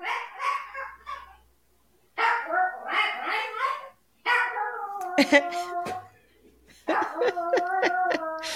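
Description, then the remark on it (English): A dog barks in quick, repeated bursts, loud, with a longer run of yaps toward the end. Voices talking fill the stretches before the barking starts. “You got to attend to your lonely dog over there.”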